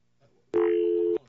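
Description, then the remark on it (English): A loud, steady telephone dial tone hums for just over half a second, cutting in and out abruptly, with only faint background murmur around it. “Is that a dial tone that I'm hearing?”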